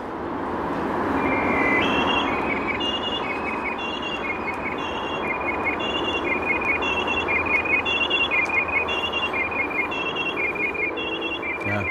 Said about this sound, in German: Amsel mit Martinshorn. Ich bitte mal meine Kollegen, genau das rauszuholen. Das ist ein bisschen später. Wir haben nämlich eine Amsel von 1910 ohne Martinshorn, aber jetzt haben wir sie mit Martinshorn. Jetzt hören wir sie auch.